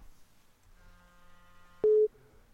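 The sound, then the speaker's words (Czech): A faint, steady telephone line tone hums for about a second, then a sharp click and a brief, loud electronic beep as a listener's call connects to a radio call-in program. No one speaks. “Vážení a milí přátelé, a máme ještě jeden ještě telefon.”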